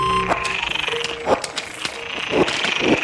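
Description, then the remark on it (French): Frogs in distress, recorded in a pond below a slag heap in Nord-Pas-de-Calais, France, give sharp, strained croaks and squeals in several short bursts rising and falling in pitch, over a steady background of chirping insects and pond ambience. “Trois de grenouilles en détresse, en fait, enregistrées dans une mare en dessous d'un terril du Nord-Pas-de-Calais.”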